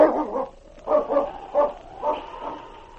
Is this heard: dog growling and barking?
yes